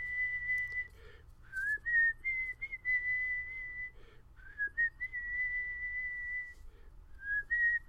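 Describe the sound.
A person whistles a melody alone, a clear sustained tone with short breaks between phrases and small pitch slides, moderately loud over a low background rumble.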